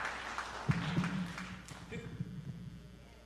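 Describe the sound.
An audience claps for their pastor as she comes up to preach, with scattered, uneven hand claps and a few sharper ones standing out over a murmur of voices. The applause is fairly soft and brief.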